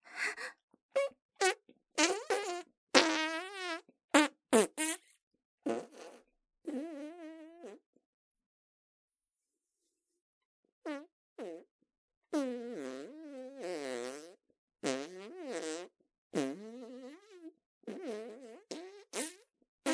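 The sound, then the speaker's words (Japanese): A rapid string of loud farts from a bloated stomach after taking medicine that makes passing gas easier, some short and sputtering, others longer and squeaky, followed by a brief silence and then another run of drawn-out, wavering farts. “おなら、連続でおならです。”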